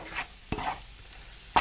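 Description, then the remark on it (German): Shrimp sizzle steadily in a hot pan, a soft crackling hiss broken by two sharp clicks of a utensil scraping or stirring. No one speaks. “Bring gerne hier aus der Pfanne.”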